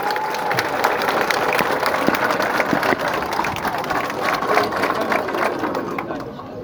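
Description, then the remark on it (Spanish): An audience applauds steadily at a celebration, in tribute to the Public Health staff, a dense crackle of many hands clapping at an even loudness throughout, with scattered sharper claps standing out and no voices speaking. “Y estar viviendo esta fiesta creo que es el resultado de esa compleja interacción y creo que merece un aplauso la gente de Salud Pública.”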